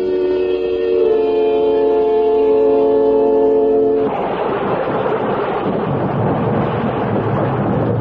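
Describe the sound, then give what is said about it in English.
A held musical chord fades into a steady, heavy wash of falling rain with a low rumbling undertone, loud and continuous through the second half with no voices. “When the rain stops, we can go out there.”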